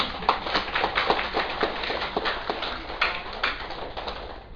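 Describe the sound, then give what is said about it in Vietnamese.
An audience of Buddhist followers at a dharma talk claps steadily for a few seconds, applauding themselves, a dense patter of many hands applauding together at moderate volume, with no voices over it. “Cho nên mình cũng phải nên vỗ cho mình một tràng pháo tay chứ.”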